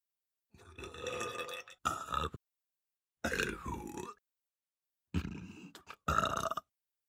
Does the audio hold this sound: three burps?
yes